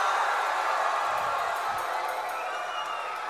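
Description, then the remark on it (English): A large live crowd in Portland cheers and roars in a steady, dense wash of voices, with scattered whoops and clapping mixed in, holding at an even, loud level throughout. “Yeah, that's what we like to feel, live crowd.”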